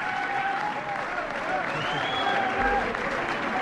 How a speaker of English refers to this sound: Both smiling from ear to ear, Obama applauding back. Thank you. Thank you. Mr. President, I think we got a happy room here.